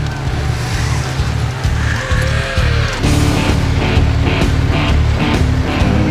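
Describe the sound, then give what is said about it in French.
A snowmobile with a 1200 cc engine runs loud, a steady low growl with rhythmic surges and rushing wind noise throughout, no voices. “La puissance du moteur, on parle de 1200 cm3.”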